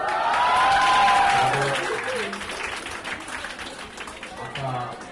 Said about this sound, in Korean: 학생들이 환호성을 지릅니다.